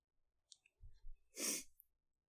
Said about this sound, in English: You also might hear my dog snoring, because apparently this is boring for him.